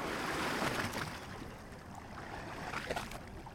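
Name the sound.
sea waves washing ashore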